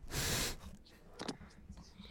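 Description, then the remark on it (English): A loud breath rushes straight into the microphone in a broad hissing burst, followed by a shorter, softer puff of air against a quiet background. “Now you're like breathing into the mic.”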